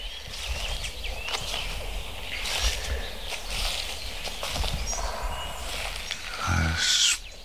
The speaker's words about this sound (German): Specht. Trommelparty. Für meine Ohren gerade 360 Grad Dolby Surround. Das auf dem Mikrofon aber schwer, also mit dem Mikrofon schwer einzufangen ist.